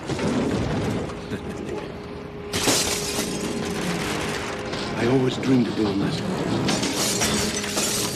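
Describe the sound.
A car is crushed in a crusher: metal crunching, grinding and cracking bursts in abruptly and continues loud and steady, with a voice speaking briefly over the din.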